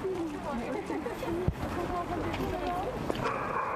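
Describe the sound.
Dogs bark intermittently over a steady murmur of outdoor voices during a visit by French President Emmanuel Macron to a mid-sized town, with a couple of sharp knocks breaking through the background.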